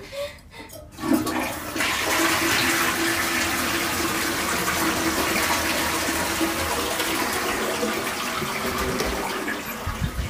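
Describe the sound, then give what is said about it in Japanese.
A toilet flushes with a sharp start, then a loud, steady rush of water that holds for several seconds before starting to taper off. No one speaks. “よいしょ、流してきます。”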